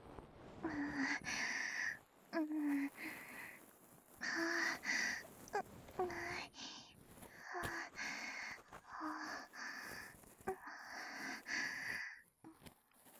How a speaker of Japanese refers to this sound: だが、耳のそばで乙女の吐息を感じるのはなかなか。